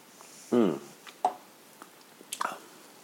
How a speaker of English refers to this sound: And I was sipping on this, which I'm about to sip on right now.